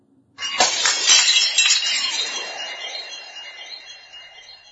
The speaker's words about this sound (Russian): И вдруг старший брат поскользнулся. На дне ямки под старым кленом, куда не заглядывало солнце, лежал подтаявший темный снег. И старший упал, и бедный младший ударился о корень дерева и с жалобным звоном разбился на мелкие кусочки.